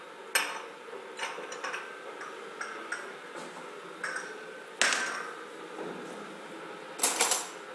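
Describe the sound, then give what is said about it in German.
A teacup and dishes are set out with a series of sharp ceramic clinks and clatters, irregularly spaced, with quieter taps and shuffling in between and a few louder knocks. “Und währenddessen stellst du eine Teetasse bereit.”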